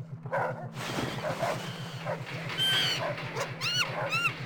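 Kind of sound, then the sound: animal, tiger roaring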